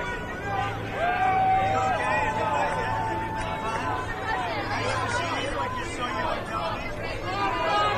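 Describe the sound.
A large crowd of New York union workers shouting and cheering "USA" together, many overlapping voices forming a loud, steady roar with individual cries rising and falling above the din throughout.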